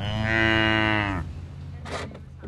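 A dairy cow lets out one long, loud, droning moo at a dairy farm in rural Candor, New York, followed by quieter farmyard background with a brief rustling noise.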